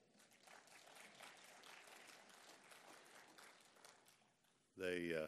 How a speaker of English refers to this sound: And give those guys back there a big round of applause.